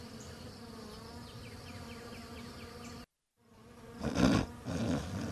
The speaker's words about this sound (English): The bees are buzzing.